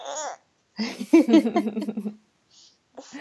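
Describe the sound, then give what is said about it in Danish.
A baby boy held in someone's arms babbles, a short coo followed by a longer run of high, chirpy syllables, then a pause and a brief soft murmur at the end. “Nu har jeg lige en lille baby på armen, som ligger her og sover videre.”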